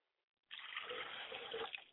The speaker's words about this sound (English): I pour libation to the east, which many of our people travel from the east to get to Egypt and to get to a place where the Nubians once lived and resided. And I say, Ashe.